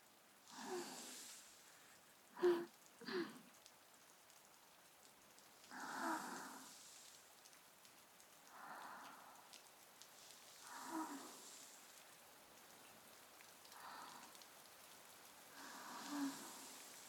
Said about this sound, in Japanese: 雨、少し強くなってきたかな。